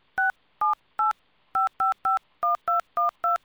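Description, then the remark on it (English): Ten crisp phone keypad tones beep in quick succession, each a short two-pitched electronic blip, clear with brief silent gaps between presses, as a 10-digit phone number is entered to set up a T-Mobile Connect monthly refill subscription. “First, enter the 10-digit number for the phone you want to refill.”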